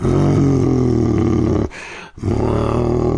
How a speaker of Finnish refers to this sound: Karhu murisi.